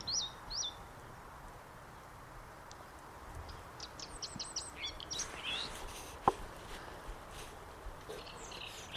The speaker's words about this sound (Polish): Kolejny ambient. I kolejna ćwierkaksa.